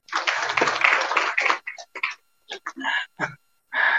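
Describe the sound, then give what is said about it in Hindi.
A burst of dense audience applause for a question and its answer, lasting about a second and a half, then dies out into scattered short sounds and brief fragments of voices. “ठीक है, बहुत सुंदर प्रश्न किया आपने, have a clap for him for nice question and have a clap for nice answer also.”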